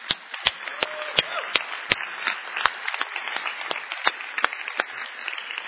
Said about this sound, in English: this is something to get excited about. So let's cheer for the Lord. Amen.